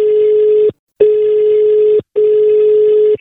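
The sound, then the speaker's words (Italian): A loud telephone line tone sounds in three long, steady beeps separated by brief silences, clear, with no voices, as a joke phone call goes out on Radio Toscana. “e da lì parte la telefonata a bischero di Bischero di Masti e sono io sulla vostra Radio Toscana, solo Toscana, solo it, vai telefono”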